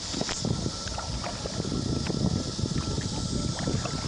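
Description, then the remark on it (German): A small boat glides steadily across a calm, deep blue sea past small grottoes and caves, a continuous low rumble with soft splashing and some wind buffeting the microphone, unbroken, with no voices. “Mein kleines Boot gleitet an kleinen Grotten und Höhlen vorbei, die mit jeder kleinen Welle ein bisschen mehr ausgewaschen werden.”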